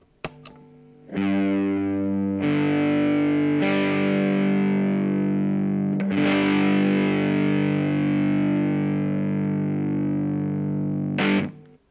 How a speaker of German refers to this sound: Dieser ist jedoch lediglich die Verdopplung des Grundtons um eine Oktave höher. Der Power-Akkord bekommt aber erst richtig Power, wenn ich den Verzerrer-Effekt einschalte.